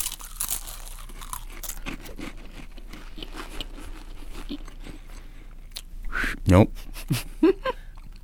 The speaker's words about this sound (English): Now, your job is to eat the saltine, and then the first one to whistle the Olympic theme or really make any sound at all wins.